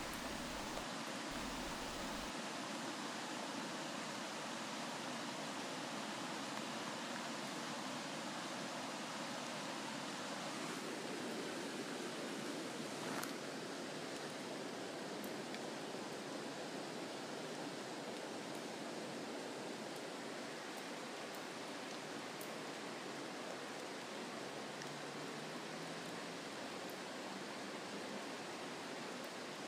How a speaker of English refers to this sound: So take a minute right now and sit with me and listen to the sounds of the river. Close your eyes, listen, and breathe. Just for a minute.